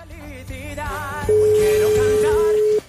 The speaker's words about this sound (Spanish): A ver si nos lo coge en el teléfono. Está sonando.